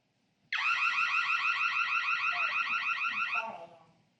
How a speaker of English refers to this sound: Yep, house. Burglar alarm is mostly what it is associated with. Hopefully that's something we don't hear a lot.